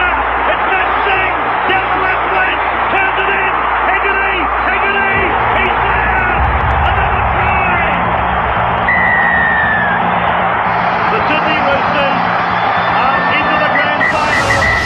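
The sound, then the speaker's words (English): A large stadium crowd roars and bellows continuously, a dense wall of cheering voices with whoops rising above the din, loud and sustained throughout. “We're talking about the crowd tonight.”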